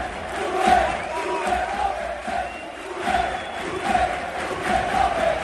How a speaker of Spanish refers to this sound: Situación extrañísima de gritos a favor de Julen Lopetegui, que es un mensaje claro de la afición diciendo: sabemos que no eres el principal y el único responsable de lo que está pasando esta temporada en el Sevilla.